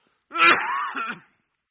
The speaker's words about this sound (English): How about one more good cough before we get started here?